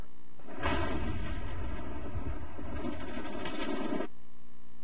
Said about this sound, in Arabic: وهنا في منطقة عدرا الصناعية، ولحظة وصولهم إلى نقطة المكمن القاتلة تم تفجير سلسلة من العبوات الناسفة.